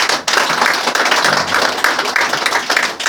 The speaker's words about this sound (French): 다시 한번 박수 한번 쳐주세요. Et donc on va applaudir encore une fois.